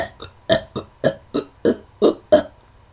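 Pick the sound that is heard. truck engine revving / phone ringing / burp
burp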